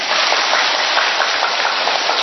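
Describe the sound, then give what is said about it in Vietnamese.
A crowd applauds loudly and steadily, many hands clapping into a dense, even roar that holds for a couple of seconds with no voices. “chúng ta phải thấy vỗ một tràng pháo tay thật to lên, vì lý do tôi sẽ nói cho anh chị em vỗ to lên.”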